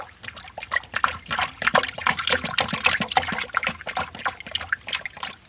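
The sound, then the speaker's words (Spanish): Water pours and trickles steadily for several seconds, a close, busy stream of splashes and gurgles with no voices over it. “Bebe Agua, como su nombre lo indica, todo el tiempo tomaba mucha agua.”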